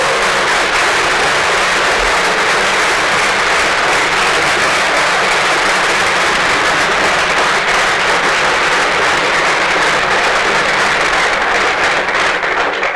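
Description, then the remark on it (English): A crowd claps steadily and densely for the whole stretch, a loud, even wash of many hands with no voices breaking through, holding at full strength before easing slightly at the very end; an audience applauding the people who gave presentations. “I think these people deserve a round of applause for putting in some effort to put this into a great presentation.”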